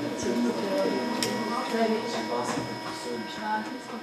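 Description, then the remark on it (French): A 3D printer printing a part layer by layer in PLA plastic hums and whirs steadily with faint tonal motor whines, running continuously while people talk over the mechanical drone. “En fait, la pièce est découpée en plusieurs couches et l'imprimante imprime couche par couche.”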